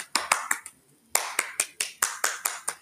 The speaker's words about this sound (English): Give yourselves an even bigger round of applause.